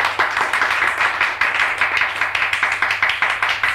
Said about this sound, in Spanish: Aplausos desganados de todos, menos de los padres del ganador, que se queman las manos de tanto aplaudir a su hijito sabio.